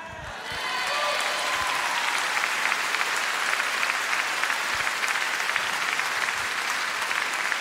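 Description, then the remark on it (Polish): Sustained audience applause, a dense steady wash of many hands clapping that swells in within the first second and holds at an even, loud level throughout, with faint crowd murmur beneath. “W tych oklaskach jest bardzo dobra nowina.”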